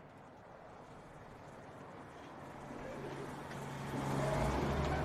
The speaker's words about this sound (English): On a deserted street. With a dead pterodactyl on its roof, the car turns into an alleyway.